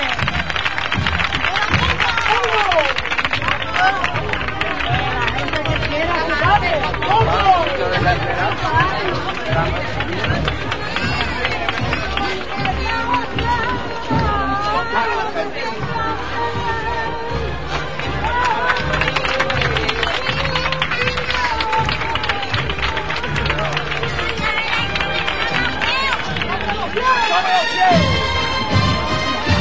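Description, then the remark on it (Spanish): A crowd applauds steadily at a street procession of the Señor del Soberano Poder float in the La Granja neighbourhood, dense sustained clapping mixed with cheering and murmuring voices, loud and unbroken for about thirty seconds. “De nuevo el aplauso.”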